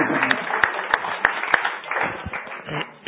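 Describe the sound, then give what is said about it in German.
A round of audience applause, a dense patter of many hands with a few sharp, louder claps standing out early on, holding steady and then thinning toward the end. “Danke, einen Applaus oder der sich wieder niedersetzt.”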